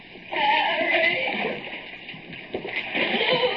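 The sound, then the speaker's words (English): Water sloshes and splashes steadily as someone wades chest-deep through a dark, flooded tunnel with slimy walls, feeling around, with irregular surges and gurgles and a constant hissy wash in the background. “Water lapping snugly at my chest.”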